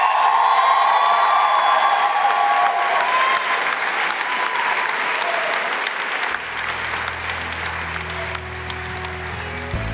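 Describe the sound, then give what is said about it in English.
An audience at a Columbia International University chapel service claps and shouts on a count of three, a dense, sustained burst of applause with scattered whoops, gradually thinning toward the end as a low sustained organ-like tone enters. “Oh, clap your hands, all ye people, and shout unto God with a voice of triumph.”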